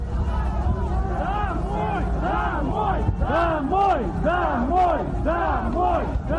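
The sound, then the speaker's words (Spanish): A crowd of civilians shouting "go home" at Russian soldiers together in loud, rising and falling bursts, voices overlapping in rhythmic chant-like yells over a constant low rumble of noise. “Lo que se escucha aquí son civiles gritando a los soldados rusos, volved a casa.”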